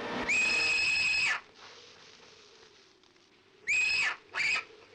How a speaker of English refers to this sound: The owl, they use the screech for an owl in this to kind of mask Mina's scream.